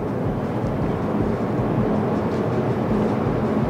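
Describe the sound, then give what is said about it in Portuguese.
A car accelerating hard at full throttle from 100 km/h, its synthetic engine sound a loud, steady low roar with a faint droning hum, sustained without a break and with no voices. “Olha a velocidade que esse carro ganhou estando a 100 por hora.”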